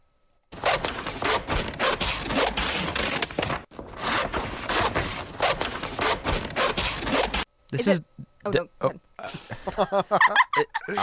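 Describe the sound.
Scissors cut through paper in a steady run of crisp snips and rustling scrapes lasting several seconds, with one brief pause, followed by a person speaking.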